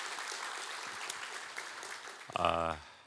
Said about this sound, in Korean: 우리 성령 충만한 우리 찬양해 주셨는데 한번 감사와 격려의 박수 한번 드리겠습니다. 고맙습니다.